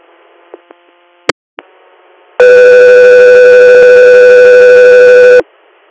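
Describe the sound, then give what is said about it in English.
A few short clicks and blips lead into a loud, steady electronic tone that holds for about three seconds before cutting off abruptly. These are radio dispatch alert tones that come before a medical interfacility patient transfer request from Ithaca, New York. “standby for Tones.”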